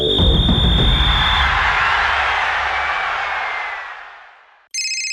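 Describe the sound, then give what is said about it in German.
A loud rushing whoosh swells and fades into silence, then a bright electronic telephone ring cuts in abruptly right at the end, clear, with no voices: Sepp Blatter's telephone ringing in Zürich in late autumn 2010. “Bei Sepp Blatter klingelt das Telefon.”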